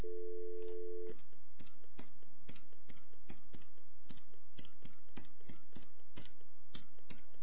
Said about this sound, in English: And if you heard those touch tones, feel free to call him.